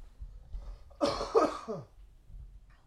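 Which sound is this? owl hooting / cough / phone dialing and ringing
cough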